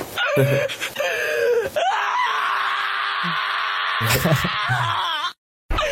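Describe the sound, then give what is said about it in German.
A large dog lets out long, high, wavering screams and groans while having its nails trimmed, with breaks between loud wails, ending abruptly in silence. “So, falls du es nicht gesehen hast, da wird ein kleinen, wunderschönen großen Hund die Fußnägelchen geschnitten. Und der schreit.”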